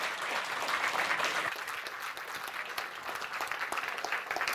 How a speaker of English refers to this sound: So I wish you a wonderful session, and this is your applause